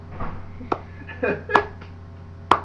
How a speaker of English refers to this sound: No, that clap was too fast.